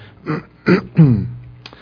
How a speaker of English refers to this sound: I'm using this microphone here because I'm going to need to turn away and clear my throat, and I think you prefer not to hear that.